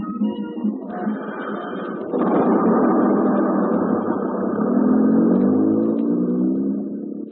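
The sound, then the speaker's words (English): A bus engine rumbles and revs, growing louder partway through and holding a steady, throaty drone with some clatter as it pulls in. No voices. “Oh, ha-ha, gee, I must have missed him. He didn't get off that bus.”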